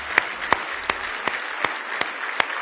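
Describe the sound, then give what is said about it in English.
A church audience claps together in praise of the Lord, a dense wash of hands with sharp accented claps landing on a steady beat about seven times in a row, moderately loud, with no talking over it. “Give the Lord a big hand clap of praise if you love Him tonight.”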